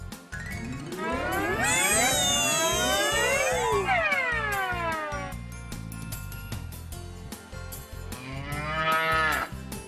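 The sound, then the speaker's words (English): A cow moos loudly, one long, drawn-out bellow that rises and falls, followed by a second shorter moo near the end, with a little background noise. “A cow! That's right!”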